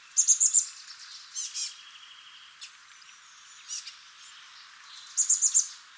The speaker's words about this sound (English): It's the chestnut-backed chickadee, Peacely rufescens. Here are some chestnut-backed chickadees in California making a variety of squeaky calls.